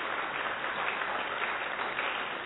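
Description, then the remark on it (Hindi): A crowd applauds steadily to thank a speaker, a dense, even wash of many hands clapping with no pauses and no voices, holding a constant loudness for the whole stretch. “तो सभी जोरदार ताली से धन्यवाद करेंगे।”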